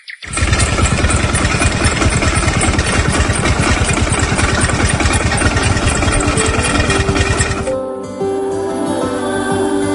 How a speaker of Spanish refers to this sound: Pues si se tercia, incluso pasa la podadora por su finca.